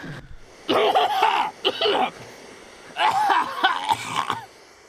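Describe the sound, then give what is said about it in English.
Two bouts of harsh, raspy coughing in a recording broadcast by the BBC 92 years ago, separated by a brief pause, each a rapid run of hacking coughs with a strained, wheezy, half-voiced edge. “Let us hear the cough again.”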